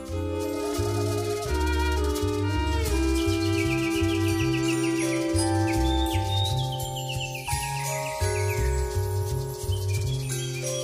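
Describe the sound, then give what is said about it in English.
Recorded birdsong with repeated bright chirps and tweets, mixed over a steady, full musical background with a rhythmic low bass line. No one speaks. “Rich Guthrie's looking around the studio trying to find the birds. Now, it's just a recording, Rich.”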